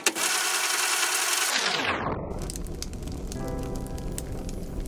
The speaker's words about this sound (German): Echt gemütlich hier mit dem Kaminfeuer. Und so schön warm.